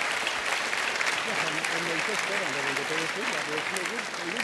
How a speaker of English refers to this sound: Welcome back. We're at an Intelligence Squared debate from so let me do that again. Can you give me another round of applause?